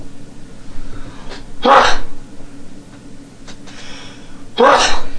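Two sharp, explosive sneezes, a few seconds apart, loud, with low background murmur between them.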